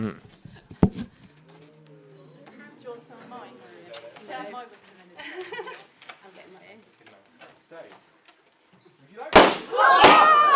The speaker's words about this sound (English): Knowledge is knowing that loud bangs come with balloons popping. Wisdom is not doing it in church on a Sunday morning.